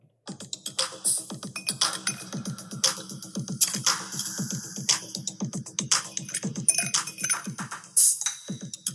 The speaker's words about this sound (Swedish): Men en sak som var med på sidan, det var en opener, alltså bottle opener. Och nu, ni ska få höra hur den låter då.